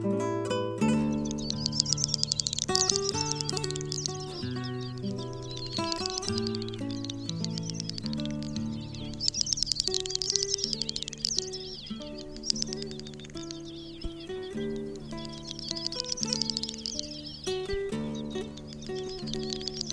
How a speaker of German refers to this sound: Das war die Doppelschnepfe.